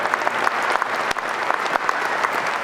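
Steady applause from a crowd for a person standing up in the audience, a dense wash of many hands clapping at an even loudness throughout, with no voices standing out.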